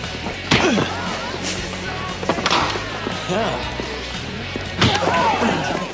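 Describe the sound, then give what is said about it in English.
Three sharp punch impacts land a couple of seconds apart, each a loud, close smack, with grunting and muffled voices between them. “Matt's second punching scene in the episode.”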